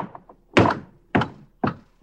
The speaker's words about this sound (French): Le rebond. Comme cette porte de bois qui rebondit après avoir été lâchée. Faire rebondir, c'est, à partir d'un impact, créer une succession de répliques de cet impact, mais toujours en décrescendo, en diminuendo.